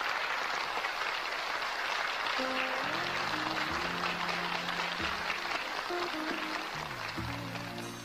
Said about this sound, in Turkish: Alkışlarınızı İbrahim Erkan lütfen